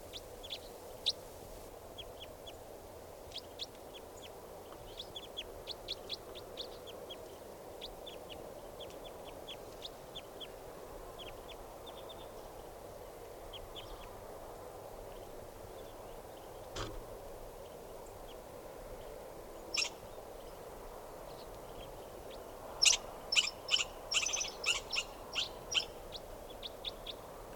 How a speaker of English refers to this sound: Type 4 birds are all calling now, just perched in the tree, they're going to take off.